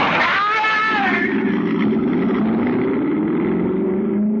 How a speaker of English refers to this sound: I had no idea the Mercedes had such power. It leaped forward under the accelerator. As I swung it around, clipping the front bumper of the delivery truck, skidding across the wet road, throwing a sheet of liquid mud over the two men.